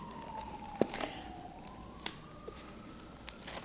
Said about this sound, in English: Let that siren go past here.